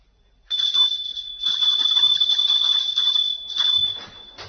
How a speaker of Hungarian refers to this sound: Süket! Ide azt a kapukulcsot! Nem hallja, hogy tépik a csengőt!